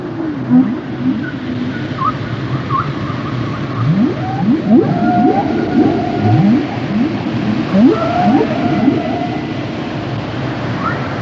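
Whale calls echo underwater: a series of rising, sweeping moans and short upward chirps repeat over a constant low rumble, with no one speaking.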